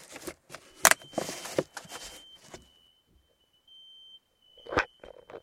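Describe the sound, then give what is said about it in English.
A fire alarm sounds as a thin, steady high-pitched tone that holds for several seconds, fairly faint, with rustling and clattering noises over it as someone fills rat traps with peanut butter and pears; rats start moving around. “So the fire alarm just went off, and dude, all the rats just started moving down here.”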